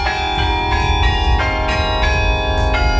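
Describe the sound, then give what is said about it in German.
Several of the 30 church bells of the Protestant Stiftskirche in Herrenberg, Germany ring together in the church tower, which houses a bell museum. Their strikes overlap into a dense, sustained wash of metallic tones, with new strokes landing every half second or so, loud. “Auch einige der 30 Glocken in der evangelischen Stiftskirche in Herrenberg kommen heute zum Einsatz.”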